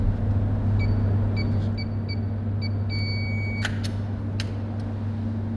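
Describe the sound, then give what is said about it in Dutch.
A string of short electronic keypad beeps as a secret code is entered to open a steel door in a rock tunnel of a hydroelectric power station 800 metres inside a mountain: about six evenly paced tones then a longer one, then a few sharp clicks, over a steady low engine hum, no talking. “Er moet even een geheime code ingevoerd worden.”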